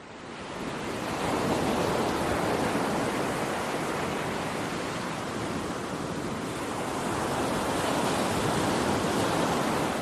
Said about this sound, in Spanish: Pois sí, están escoitando ben o que están a ouvir é precisamente o sonido relaxante do mar batendo na costa. Concretamente, na Playa da Madalena, en Cabanas, donde, sin dúbida alguna, durante estos días estáse a converter nun fervedoiro de xente.